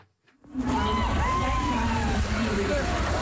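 A dragon boat race at the Dragon Boat Festival's Quebec Cup, Olympic Basin, about 82 teams: steady loud rush of splashing and sloshing water mixed with a busy crowd hubbub and rising shouts, starting abruptly after a brief quiet moment.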